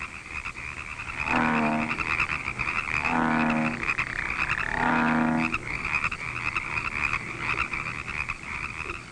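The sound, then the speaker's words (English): A bullfrog croaks three times in slow succession, each call a deep, resonant drone lasting under a second, over a steady high-pitched chorus of insects or frogs around a pond. “The bullfrog stays in the pond for his entire life.”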